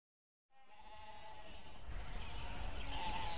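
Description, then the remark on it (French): A flock of five sheep, led by a shepherd onto a mountain, bleat in a steady, wavering chorus that begins abruptly and swells louder, with a rough, noisy texture building underneath toward the end. No one speaks. “Chaque jour, le berger mène ses moutons sur la montagne.”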